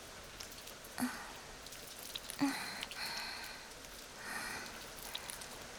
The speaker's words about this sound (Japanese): 恥ずかしい声も我慢しなくていいよ。この雨が全部かき消してくれるから。